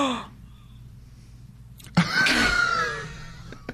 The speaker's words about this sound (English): What was that gasp? That's called marriage, buddy. That's support.